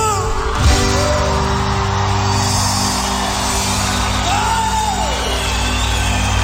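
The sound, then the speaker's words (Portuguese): A crowd of people yells and whoops together in one loud, sustained shout that fills the whole stretch, with a few voices rising above the roar. “Quem já amou, dá um grito.”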